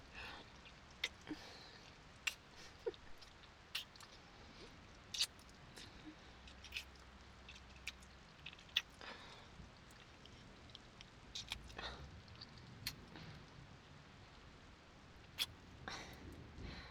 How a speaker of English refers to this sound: Well, I guess, first, a kiss? Just a simple little kiss? Not that little, silly. A real kiss.